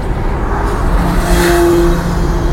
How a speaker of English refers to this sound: Motorbike's charging past us here. Going westbound on the A303.